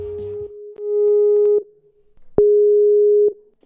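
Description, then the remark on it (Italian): A telephone ringback tone purrs through the line on a call to a massage centre: two long, steady, mid-pitched beeps with a short pause between them, clear and prominent with no one talking over them. “Lo scopriamo subito con la telefonatina.”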